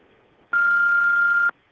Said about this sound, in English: To leave a message, please leave one after the beep and I will get back with you soon.